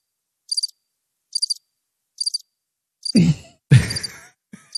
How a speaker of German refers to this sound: Du hast Vögelgezwitscher oder sowas, oder? Ich habe es gehört.